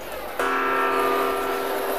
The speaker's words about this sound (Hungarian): Gong? Hol van a gong? Jó, jövök már.